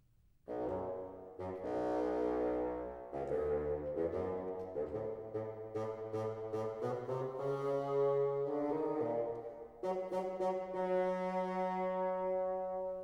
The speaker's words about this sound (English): The grandfather by the bassoon.